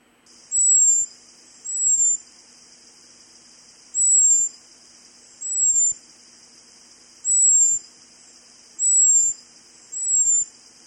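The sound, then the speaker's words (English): An American robin's high-pitched seet alarm call given at a flying hawk: seven thin, very high whistles, each short and slightly falling, given in loose pairs against a quiet background with no talking. “And so you can hear it's this really high-frequency, thin-sounding whistle.”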